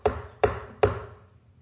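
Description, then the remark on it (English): Three firm knocks on a door in the middle of the night, evenly spaced about half a second apart, each with a hollow thud and short ring, heard alone with no voices. “Then, who's knocking on his door at this time of the night?”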